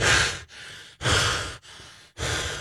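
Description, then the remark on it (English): Heavy, stressed breathing performed by a voice as an impression of Mark Wahlberg, loud breaths alternating with softer ones in a quick, steady rhythm, about five in under three seconds, with no talking. “So heavy breathing, few words at a time.”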